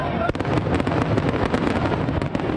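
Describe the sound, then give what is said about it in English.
Fireworks crackle and pop in rapid succession at a campaign rally in Philadelphia, a dense, loud barrage of bursts over a roaring crowd, with one sharper bang standing out early on. “And he sent the Philadelphia crowd on their way with a hail of fireworks and a shower of red, white, and blue confetti.”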